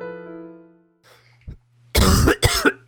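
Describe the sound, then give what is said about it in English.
A fading musical tone gives way to a quiet pause, then a burst of loud, raspy coughing, three harsh hacks in quick succession at the end. “I just thought I'd share my lovely cough with you.”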